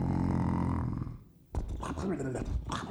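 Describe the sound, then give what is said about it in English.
A voice makes a long, low, rumbling snore for about a second, then breaks off briefly before talking resumes, fairly loud. “Snively stood there, listening to him snicker and snore, waiting patiently for him to wake up”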